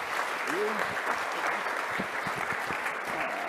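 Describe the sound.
An audience claps steadily, a dense, even wash of applause lasting throughout, with a brief voice or cheer rising from the crowd near the start.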